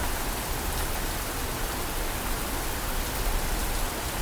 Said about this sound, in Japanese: 雨は降り続けました。あなたと少年の出会いを祝福するかのように。土砂降りの雨がやがてパラパラと踊り出すまで、もう少し。